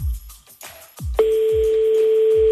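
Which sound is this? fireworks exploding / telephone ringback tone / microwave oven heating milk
telephone ringback tone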